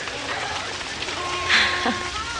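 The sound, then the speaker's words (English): Steady rain falling, a dense, even hiss that fills the whole clip, with a brief louder splash or rustle partway through and faint murmuring voices in the background. “Everyone's trying to get out of the rain.”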